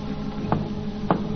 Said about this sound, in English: Now they hear a signal being tapped on the outer door.